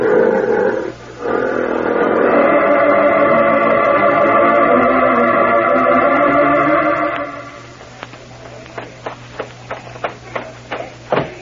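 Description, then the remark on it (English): Lions loose at a circus give a deep, sustained roaring with rich, rumbling overtones for the first seven seconds, then a quieter run of sharp, irregular knocks and clatters follows. No one speaks. “Our lions are loose.”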